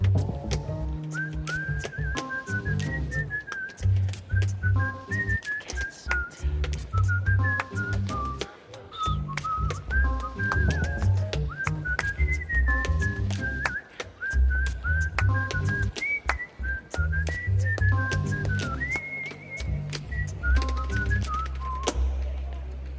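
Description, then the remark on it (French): Someone whistles a lively tune in clear, sustained notes that rise and fall, backed by a steady rhythmic beat with sharp percussive hits throughout. “Je ne sais pas lequel des deux sifflote”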